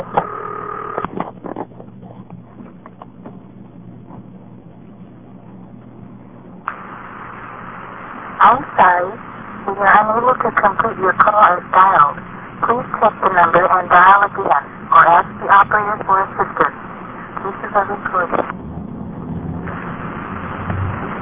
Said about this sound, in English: The directors are set up to treat that toll call down from the payphone exactly the way they would handle a toll call for a home phone. What I mean is if you dial one and then a number, the director will repeat everything you dialed